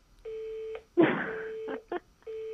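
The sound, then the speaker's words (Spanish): Repeating electronic telephone beeps after a call is hung up, steady buzzy tones with short gaps, broken once by a brief clattering handset noise, fairly loud, no talking. “Pero señor Hoyle, colgó”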